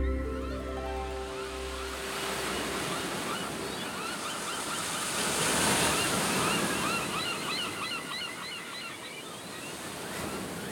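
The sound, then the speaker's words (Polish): Ocean surf rushes and washes ashore in a steady broad roar, swelling louder midway, with faint bird cries above; a low sustained tone fades out in the opening seconds. “Daleko stąd rozciągał się wielki ocean.”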